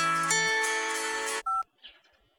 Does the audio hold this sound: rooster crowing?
no